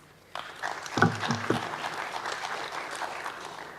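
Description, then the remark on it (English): A crowd breaks into steady applause welcoming a speaker to a talk on MySQL and its spatial capabilities, many hands clapping in a dense, even patter that holds at a moderate level for several seconds. “So please clap.”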